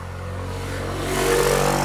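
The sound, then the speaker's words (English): A motorcycle engine idles with a low, steady rumble, then revs up louder and rougher partway through, with no voices. “I had, a gay old motorcycle.”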